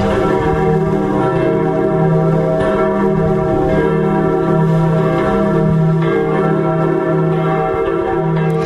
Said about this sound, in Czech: Za slavnostního vyzvánění tří ostravských zvonů, které nedávno oslavili 90. narozeniny, se rozloučíme i s dnešním toulavým magazínem.